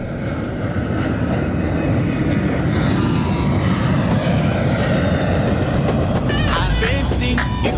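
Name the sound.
airplane flying past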